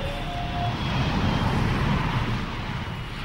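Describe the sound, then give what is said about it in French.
A steady, loud airplane engine roar as the plane takes off from the tarmac, a broad rumbling drone with a faint high whine, holding constant for a few seconds with no voices. “Je regardais par le hublot pour tenter d'apercevoir l'océan dès que notre avion quitta le tarmac.”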